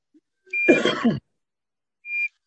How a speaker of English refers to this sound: Can you please mute this beep?